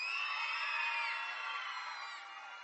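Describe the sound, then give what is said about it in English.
A crowd of children in a church yells together at full volume, a sustained, high-pitched group shout that holds steady for a couple of seconds before gradually trailing off. “This is your chance to yell as loud as you can in church.”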